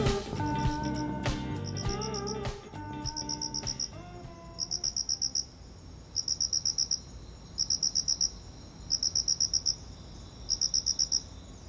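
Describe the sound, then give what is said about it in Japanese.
Crickets chirp in steady, evenly spaced bursts of rapid trills, each pulse clear, repeating rhythmically after a brief musical passage fades out at the start; crickets in a home garden in September, early autumn. “もうコオロギコロコロリンですよ コロコロリンって 言ってない、これコロコロリン、コロコロリン。”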